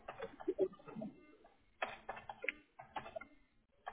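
Quick bursts of computer keyboard typing as zip codes are entered for a search, keys clicking in short irregular runs with brief pauses between them, fairly quiet, with no one talking.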